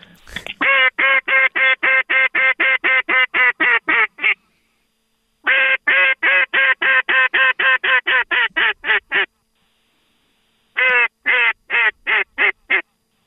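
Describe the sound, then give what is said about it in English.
A duck call is blown at passing ducks in three loud runs of rapid, raspy quacks, each series descending in rhythm, with short silent pauses between them and no talking. “Speaking of grays, hold on. Where's my duck call?”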